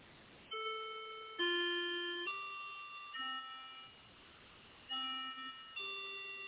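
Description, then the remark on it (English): A melodic chime plays about six bell-like notes at changing pitches, each struck clearly and ringing out before the next, with no talking over it. “you hear a chime behind me.”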